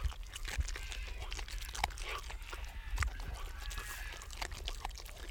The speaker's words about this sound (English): Ten-week-old Luna, a wolf pup descended from a wild Alaska pack, is chewing on a small vole.